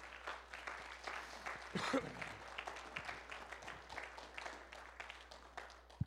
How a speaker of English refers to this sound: Would you give all our mothers a big hand clap this morning?